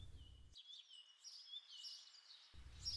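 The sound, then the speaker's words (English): Birds chirp and twitter in a steady outdoor chorus over a constant high insect-like buzz, with a low rumble dropping out in the middle; no one speaks. “Suddenly, the birds and insects buzzing could be heard clearly.”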